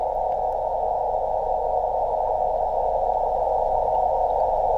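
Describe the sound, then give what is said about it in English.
A single Morse code tone, sent by a beep-producing device and received over radio at 5 meters, holds steady and unbroken for the whole stretch, loud and clear over a constant bed of hiss and low static. “So every time a radio amateur has a device that can produce a beep, he will just try to send Morse code with it, right? Now again, turned off, turned on, quite readable signal.”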